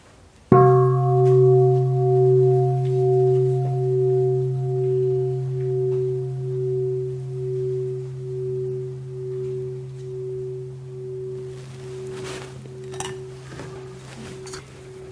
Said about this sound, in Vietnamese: Thính tiếng chuông rồi mình sẽ học kinh.